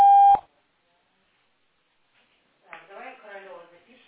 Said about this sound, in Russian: Номер занят. Оставьте сообщение на автоответчик.